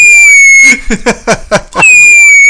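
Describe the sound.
A person imitates a bottle rocket with their voice: a high, steady whistle, then about six sharp, rapid popping bursts, then the whistle returns briefly at the end.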